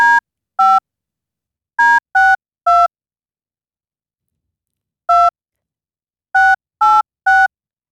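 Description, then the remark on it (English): A phone number is dialed to call a listener live on the Rob and Friends show: a series of short, clear touch-tone beeps in uneven bursts, some in quick runs and some separated by pauses, loud with silence between. “And we're going to phone them right now.”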